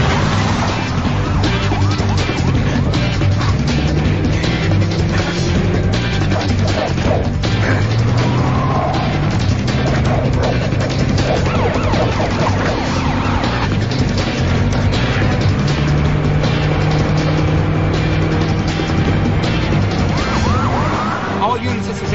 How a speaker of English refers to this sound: Officers fire at it, but it keeps going. Squad cars chase it down the highway.